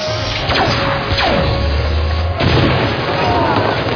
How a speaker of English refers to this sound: These are days where you have, like, most of these were sort of air cannons, right? These were big Vasco Boom Boom days.